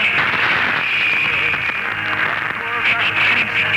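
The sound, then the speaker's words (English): An AM radio station on 970, received in AM mode, comes through muffled and distorted, with a steady whine and crackling splash from the neighboring 980 channel bleeding over it, loud and continuous for the whole stretch. “This is WESO on 970 in the AM reception mode with splash from WCAP 980.”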